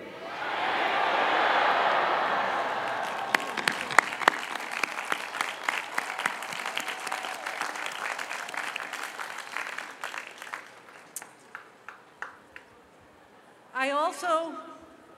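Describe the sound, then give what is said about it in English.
A huge crowd of Cornell graduates yells thank you to the people supporting them in a loud, unified roar that quickly dissolves into sustained clapping and fades out, before a single voice begins speaking near the end. “I want you to yell thank you so loud that the people here supporting you will hear your voice over the thousands of other graduates who are also yelling, okay?”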